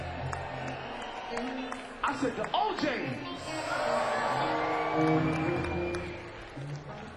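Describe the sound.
A few sparse, scattered handclaps, as if from only a couple of people, break through a murmuring crowd while a man speaks over them.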